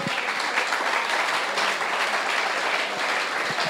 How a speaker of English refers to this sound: Come on, amen. Let's give the Lord a clap.